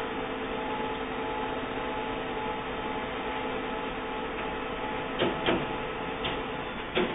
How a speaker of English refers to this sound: Let's test. Test page successfully sent to printer. The light is flashing. The printer comes on.